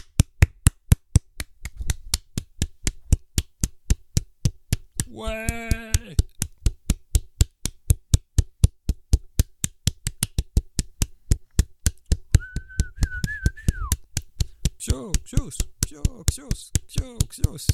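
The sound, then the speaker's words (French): Steady, rhythmic hand clapping on a radio show continues throughout at an even pace, crisp, with a short voiced cheer partway through and a brief whistling tone near the end. “tu as gagné un silence avec des applaudissements pour toi”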